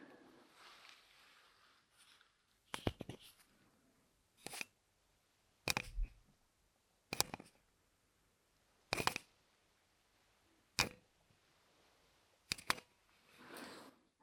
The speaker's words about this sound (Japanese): あまりいい音出なかった。今のはサーフェイスペン。